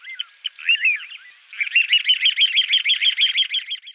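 A small bird sings alone, starting with a few scattered, varied chirps before launching into a rapid, even series of repeated notes, clear.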